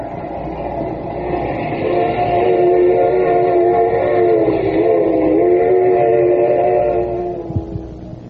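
A train rolls steadily along the rails, its continuous rumble topped by a sustained, whistle-like drone that swells in the middle and fades toward the end, with no voices.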